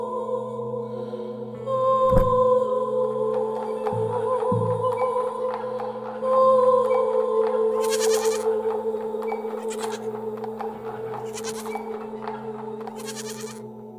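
A goat bleats in long, wavering cries that fill the whole stretch, loud, with a few brief bumps and bursts of breathy noise in between and no one talking.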